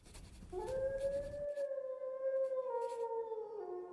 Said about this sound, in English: He listens to the howling. Tonight I heard Lobo up in the canyon, and there was an unmistakable note of sorrow in his voice. It was no longer the loud, defiant howl I had heard so often, but a long, plaintive wail.